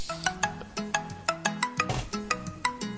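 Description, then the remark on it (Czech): A telephone rings with a bright electronic melody, quick plucky notes repeating in a steady bouncing rhythm, clear with no one talking. “Tak ještě máme telefon, vidíš to?”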